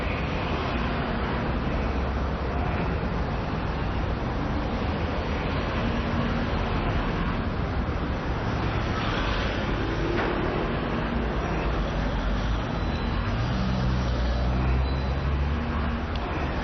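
Steady street traffic rumbles throughout as cars drive past behind and in front of the listener, crossing ahead. It is a dense wash of engine and road noise, fairly loud and continuous with no clear gaps, with a faint voice occasionally audible beneath it.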